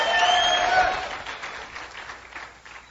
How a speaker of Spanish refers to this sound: Aplauda el nombre del Señor. Vamos, apláudalo.